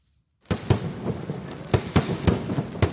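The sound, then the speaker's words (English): Fireworks crackle and bang continuously as revelers celebrate Diwali in New Delhi, India, with several sharp, loud bursts standing out over a dense rumbling wash of explosions. No one speaks. “Last night, fireworks lit up the city and surrounding areas as revelers marked the occasion.”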